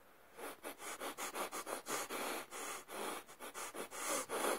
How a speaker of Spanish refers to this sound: Esto sería una cutre demostración, pero me refiero a eso, a intentar hacer una primera música en constante con tu respiración, como si fuera una batería, por así decirlo.